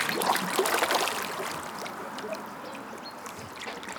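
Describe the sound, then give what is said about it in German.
Busy splashing and slapping at the surface of a lake as carp thrash and churn, fighting over pieces of bread thrown in by pedestrians, a dense patter of small splashes, most vigorous at first and then settling into steady lapping. “Die Fische streiten sich um die Brotstücke.”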